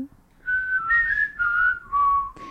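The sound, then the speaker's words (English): A person whistles a short song melody, the tune stepping through a few sustained notes at moderate volume, with no talking over it. “Well, so I need to do the whistles because there's whistles on the recording, but I still can't whistle for the life of me.”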